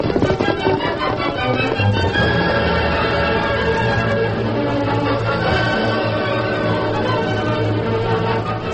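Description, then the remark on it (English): Horses whinny and break into a gallop as riders set off to scout ahead of a wagon train, a loud, dense rush of neighing and pounding hoofbeats that carries on steadily for several seconds. “All right, let's go. Come on, Silver. Come up, scout.”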